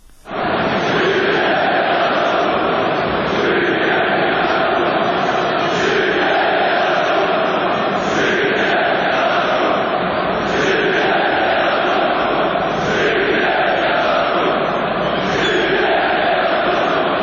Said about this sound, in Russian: Увесь стадион кричал белорусские и украинские патриотичные лозунги.